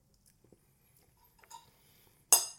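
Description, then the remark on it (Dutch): Cutlery on a plate as someone cuts food with a knife and fork while eating: soft ticks and a light ringing clink, then a sharp, loud scrape that fades out, with no talking. “Ik zou zeggen, terwijl we praten, mogen we altijd even eten. Een beetje ASMR-geluiden snijden.”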